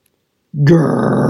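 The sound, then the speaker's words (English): After a moment of silence, a voice growls loudly and rolls straight into a sustained, breathy whooshing roar, imitating fire roaring out of the steel burners of a hot air balloon as it lurches upward. “Grrrr! Whoosh! Fire roared out of the steel burners and gushed into the hot air balloon, forcing it to lurch upward.”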